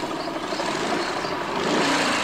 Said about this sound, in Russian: Над лесом пролетает вертолет.